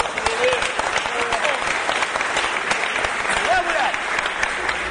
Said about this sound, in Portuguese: Salve de palmas